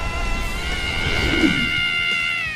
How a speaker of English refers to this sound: The planet starts to vibrate and shake. It's … tonsil as she screams down her cell phone.